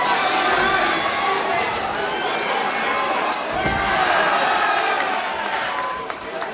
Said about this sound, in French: Là, il y a un des deux garçons qui est à nouveau à terre. Et l'autre continue à le taper dessus, sur la tête, alors qu'il est à terre. Et tout autour, donc il y a surtout des encouragements, les gens rient.